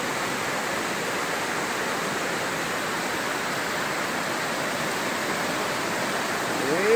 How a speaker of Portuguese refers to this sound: Olha a ponta ali, ó. Tá ainda coberta. A água já começou a correr por cima.